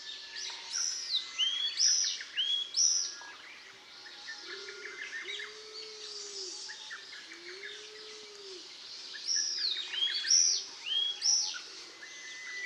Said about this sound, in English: But the most threatened parid species of all is probably Austin's tit, Sitiparis austinii. The other common name for this bird, which I like better, is Izu tit.